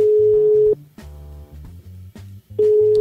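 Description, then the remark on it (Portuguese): A steady telephone ringing tone from an outgoing call to a personal mobile phone sounds in two loud beeps, one at the start and one near the end, with a quiet gap between them and low background music underneath. “Eu vou ligar pro celular pessoal dela, peraí.”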